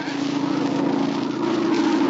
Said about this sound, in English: It's a plane, all right. It must be going to land near here. It sounded mighty low, just above the trees.